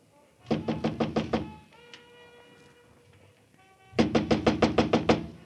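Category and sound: household object, knocking on a door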